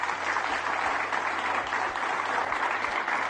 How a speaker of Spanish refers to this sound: Escuchen cómo aplaude el equipo, el Valencia, a su afición.